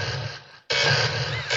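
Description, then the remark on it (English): A lightning effect from the opening of a Sega video game: a loud, harsh burst of crackling static that cuts out briefly, then surges back and holds steady at full strength, with a low rumble underneath. “Listen to that lightning.”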